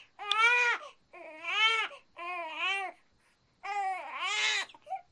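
newborn baby crying

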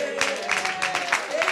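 audience clapping

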